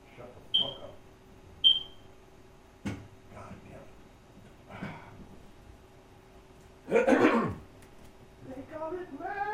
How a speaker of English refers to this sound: hold on. I got a fucking smoke alarm.